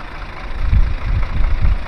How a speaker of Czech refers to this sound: A než se nám to nafouká, tak já vás vezmu ven a půjdeme si to poslechnout v motoru, protože to je tak potichý autobus, že je to divný, ale je to tak.